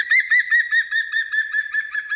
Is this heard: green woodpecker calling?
yes